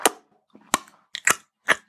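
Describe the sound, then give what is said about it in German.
A voice mimics a wet smacking noise as someone is grabbed under the arms and pulled: four sharp mouth smacks at uneven intervals, each a brief snappy burst with a slight moist tail, and no talking. “Und dann macht es ein schmatzendes Geräusch.”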